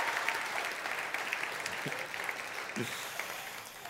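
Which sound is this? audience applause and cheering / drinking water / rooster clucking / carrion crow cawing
audience applause and cheering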